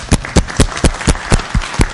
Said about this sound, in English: Very good. Nice job. We give them a round of applause each time.